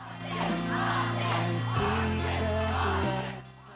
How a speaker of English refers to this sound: Sam eyes the baying crowd around her and sees Shelby energetically shouting Austin's name out.